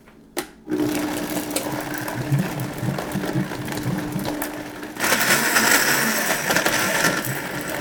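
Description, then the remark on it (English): A blender starts up after a brief clatter and whirs steadily, blending shallots, garlic and a few splashes of coconut milk, its motor roaring louder and harsher for the last few seconds as the ingredients break down. No one speaks. “Okay, so just a few splashes of coconut milk into the blender to help it move along when you blend it.”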